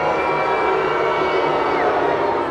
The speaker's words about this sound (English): Wow, I got booed by my own sound effects library.